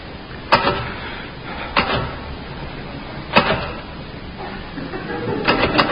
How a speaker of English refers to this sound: Haven't you finished typing out those invitations yet? Don't rush me. Don't rush me. Might help if you took the gloves off. My hands are cold. Anyway, what's wrong with typing in gloves?